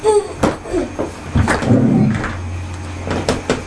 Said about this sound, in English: No, don't push it. Leave it there. No, the chair needs to come back in here now, please.